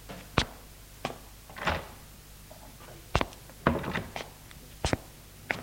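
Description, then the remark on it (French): A man opens a living room door: a handful of sharp clicks and wooden thunks from the handle and latch, spaced irregularly over a few seconds, with no one speaking. “Il ouvre la porte du salon.”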